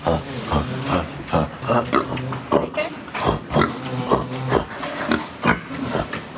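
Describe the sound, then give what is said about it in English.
People imitate pigs for a BBC Three programme, learning to speak like pigs, with a rapid series of grunts and oinks, short guttural bursts repeating in an uneven rhythm, moderately loud, with some mixed-in voices. “Well, yeah, because that's right, because learning how to speak like a pig really helps, because you won't know what the other one's saying back to you.”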